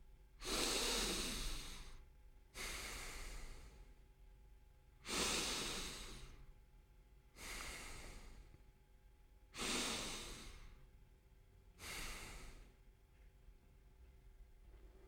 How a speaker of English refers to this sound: Take a cup and fill your cheeks with as much water as they can hold. Now breathe in and out through your nose while holding the water in your mouth.